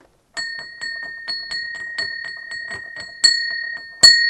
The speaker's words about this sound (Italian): Per chi suona la campana, suona per te, suona per me.